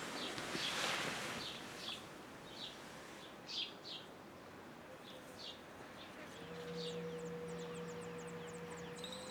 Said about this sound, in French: Chers oiseaux, vous faites mes chansons.